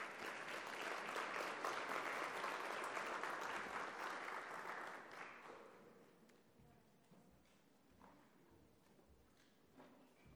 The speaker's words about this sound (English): May we give a round of applause to His Excellency as he makes his way up.